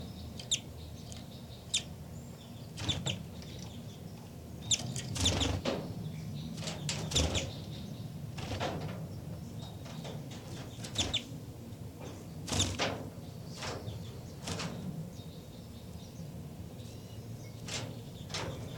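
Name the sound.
baby birds calling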